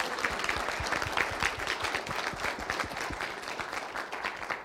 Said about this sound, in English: So, in anticipation of that event, I'd like you all to give her the appropriate applause.